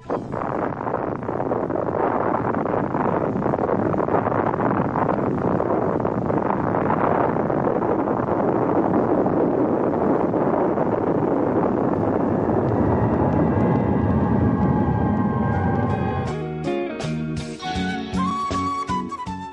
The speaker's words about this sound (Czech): Bombarder B-29 krenuo je ka alternativnoj meti Nagasakiju. Pola grada je razoreno, stradalo je 70.000 ljudi. Japan je kapitulirao dan kasnije, 10. avgusta. Slušamo snimak eksplozije atomske bombe.